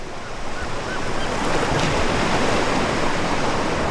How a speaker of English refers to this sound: The sky is a cloudless blue. Temperatures are in the 70s. Bright sunshine sparkles off the ocean waves. It's the quintessential Southern California beach scene.